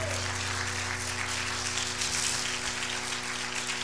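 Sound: audience clapping hands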